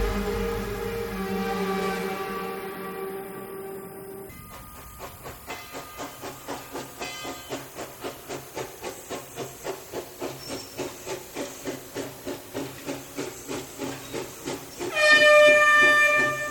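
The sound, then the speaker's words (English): A steam locomotive hisses loudly at first, then chuffs past in a steady rhythmic beat, ending with a sharp whistle-like burst of steam. “When the train passed the last curve, the city could be seen in the distance.”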